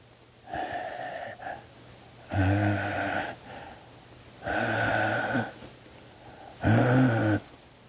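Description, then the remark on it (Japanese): A voice imitates slow, heavy, wheezy breathing heard faintly from behind a door: about four or five drawn-out breaths with a raspy, throaty edge, separated by quiet pauses, with no talking. “自分の部屋の前、うわ、こうなったら怖いですからね、息を殺してじっとしてると、ドアの向こうからかすかに、”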